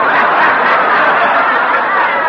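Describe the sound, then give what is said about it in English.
A harsh, steady game show buzzer rasps loudly and continuously for a little over two seconds, unchanging in level, with no talking over it; it sounds because a contestant did not answer the question in time. “Why, there's the buzzer. You didn't answer in time, did you?”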